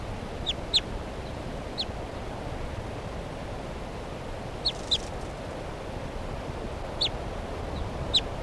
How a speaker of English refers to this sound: bird just got released by mistake, bird 387, who hasn't been banded yet. And she's giving some soft alternate type 2 flight calls here in the trees right next to the truck.